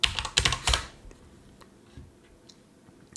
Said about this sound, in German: Sorry, dass das Tipp immer so laut ist, ihr Lieben. Mein Mikro ist da direkt neben der Tastatur.